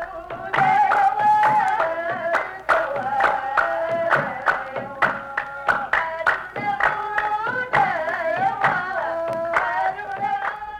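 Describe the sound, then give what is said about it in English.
A group of women kneeling in a large circle in the center of a village sings a steady, chant-like melody for the Guedra dance while clapping their hands in a brisk, regular rhythm throughout, the claps sharp and prominent against the sustained voices. “A group of women gather in the center of the village and form a large circle, kneeling on the ground, singing and clapping their hands.”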